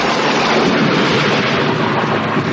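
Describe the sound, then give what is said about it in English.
Loud, steady roar of storm wind, headwinds and a tropical storm over the South China Sea, a dense rushing noise with gusty texture and a rumbling low end, continuous for the whole moment with no voices. “Headwinds and a tropical storm over the South China Sea.”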